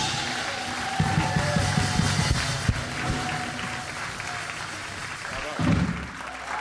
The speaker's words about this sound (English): Hello, everybody. How about another round of applause for fathers?